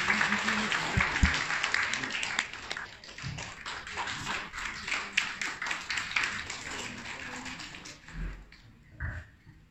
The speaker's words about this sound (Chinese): 他在格局的故事，大家掌声鼓励。